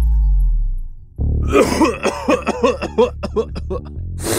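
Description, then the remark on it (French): Loud throat clearing and hacking, a rapid string of raspy, phlegmy bursts and snorts after a brief low hum, from someone who is sick with a cold clearing congestion. “c'est pas vrai que tu vas nous renifler puis nous morver ça en pleine face, là?”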